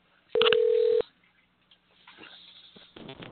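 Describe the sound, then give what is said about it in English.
A loud electronic telephone keypad tone sounds once for over half a second, clear, as a caller dials to call someone back. Fainter muffled line noise follows, with a brief buzzy burst at the end. “And I will now call that son of a bitch back.”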